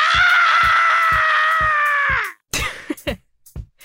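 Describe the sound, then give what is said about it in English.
A voice reenacts a long, loud, high-pitched terrified shriek, once let out when a huge rat ran through a kitchen, held for about two seconds over steady rhythmic thumps, then breaks off into a few short, ragged cries and gasps. “Ryan emitted the longest, loudest, and most terror-filled shriek I've ever heard.”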